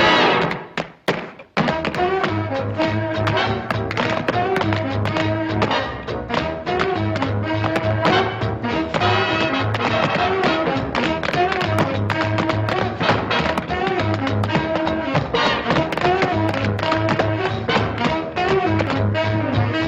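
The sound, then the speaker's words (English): Rapid, rhythmic tap dancing footwork from a clip of the 1943 film Stormy Weather, the dancers jumping through strong technical rhythms, clatters along with a loud, lively big-band orchestra, the crisp taps and thuds running steadily throughout with no talking. “Stormy Weather from 1943, and you have to watch this video, because they're just like jumping and doing these amazing rhythms and really like strong technical work, and they were more or less self-taught.”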